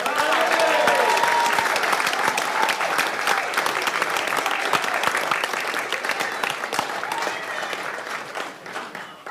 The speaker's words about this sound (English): So can we cheer and salute the long-distance runner of the year, Sir Roger Bannister?